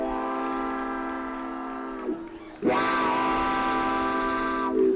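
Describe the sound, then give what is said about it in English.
A pedal steel guitar mimics a train whistle with two long, loud, wailing chords. The second slides up into pitch after a brief dip and holds steady, with no talking. “listen close to … pedal steel guitar, I can hear that train whistle blowing right now”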